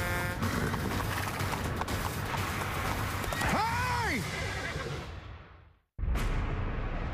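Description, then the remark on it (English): Hooves of a spooked horse skirting sideways clip-clop beneath a steady wash of road and wind noise as cars pass, with a brief rising-and-falling whinny partway through before the sound fades and cuts off. “He's skirting sideways. It was really something to handle.”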